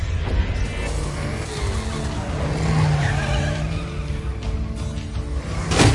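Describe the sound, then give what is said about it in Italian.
A video game car engine roars loud for several seconds, rising and straining, with tires squealing and skidding as it swerves while running down zombies. No one speaks. “La macchina effettivamente è un'ottima arma per tirare giù zombie.”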